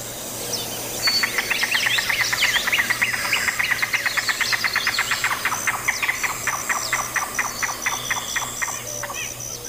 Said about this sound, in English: Again, the yellow-billed cuckoo give the more often heard calp call here.